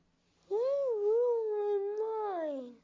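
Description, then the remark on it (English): A person telling a story imitates a cow with one long, wavering moo lasting about two seconds, voiced fairly high, with no other talking around it. “Said the cow.”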